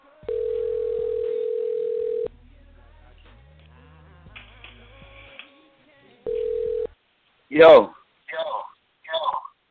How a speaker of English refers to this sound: Before we even do that, what we finna do is this. We finna make this phone call right quick.